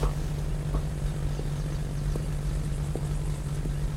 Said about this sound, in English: I can't get on that plane. I can hardly fly commercial, let alone just a tiny little propeller thing like that.